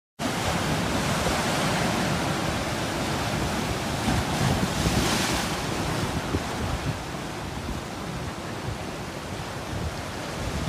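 Continuous loud roar of surging seawater as the onrushing high tide fills a large sea cave on the beach known as Merlin's Cave, with a broad wash swelling around the middle before settling back into a steady rushing churn; no voices are heard.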